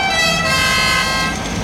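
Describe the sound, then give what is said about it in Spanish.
Loud, aggressive car horns blare in a sustained, overlapping honk, a harsh brassy tone held steadily for the whole stretch with no speech. “Sobre ellos arrojan sus aullidos feroces los claxons agresivos.”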